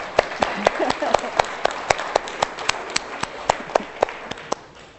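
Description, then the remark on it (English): A crowd of people at a church service applauding, sharp overlapping claps forming a steady patter that gradually thins and fades, heard at moderate loudness without any speech over it. “I think a clap for John as well, really, after that, isn't it?”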